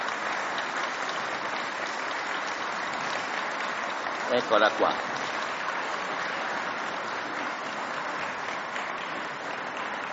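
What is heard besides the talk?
audience applause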